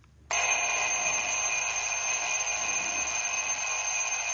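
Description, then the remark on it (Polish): A harsh, continuous electronic alarm clock blares suddenly after a brief quiet moment, holding a steady, piercing buzz at full loudness until the end with no pauses. “Bezlitosny jest, muszę powiedzieć. Budzik.”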